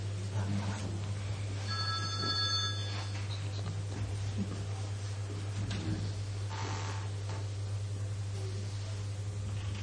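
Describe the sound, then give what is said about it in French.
The speaker's own mobile phone rings briefly with a short burst of bright electronic tones, set against a steady low hum and a noisy background; the speaker then switches the phone off. “Je vais vous couper mon portable.”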